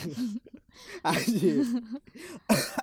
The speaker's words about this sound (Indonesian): Ih, batuk.